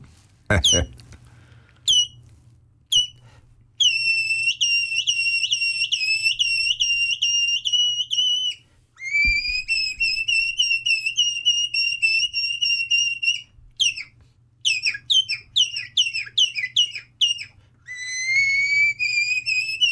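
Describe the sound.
A person whistles an imitation of nightingale song: rapid trills, sliding high notes and repeated chirping phrases, loud and continuous with short pauses, and no talking.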